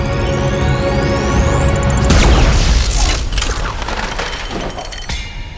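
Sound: explosion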